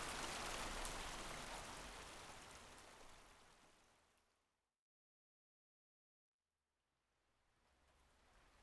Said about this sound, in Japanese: 濡れちゃ、服もどうしよう。そうだ、あっちに洞窟っぽいとこあったよね。雨宿りしよう。